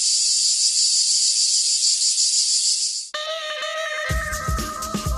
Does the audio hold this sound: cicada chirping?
yes